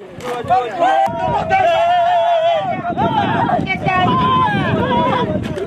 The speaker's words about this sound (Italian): Le grida di gioia che sentite sono quelle dei migranti subsahariani che lo scorso 24 giugno erano riusciti a raggiungere la Spagna saltando la rete di filo spinato che divide il Marocco da Melilla, la città spagnola sulla costa africana.